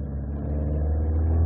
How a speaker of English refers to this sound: I can see the yellow car with the red cat's eyes. Keep well clear of it. It's beginning to move off.